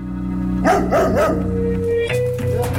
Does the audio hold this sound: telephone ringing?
no